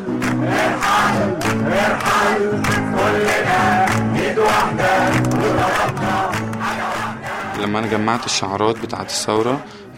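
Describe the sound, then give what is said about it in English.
A large protest crowd in Tahrir Square chants loudly in unison with a lead singer, repeating 'Irhal' ('go'), voices rising and falling in a steady, repeated rhythmic phrase, dense and continuous throughout. “one based on all the different chants that you'd hear in Tahrir, where at one point he would sing Irhal, Irhal, and the crowd would chant with him.”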